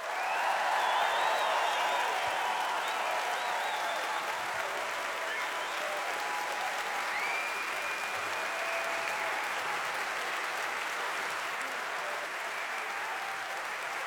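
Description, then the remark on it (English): A large audience applauds a band's string section after a live performance, steadily for about fourteen seconds, a dense, sustained wash of clapping with faint cheers mixed in, holding a fairly even loudness throughout. “give one big round of applause to …”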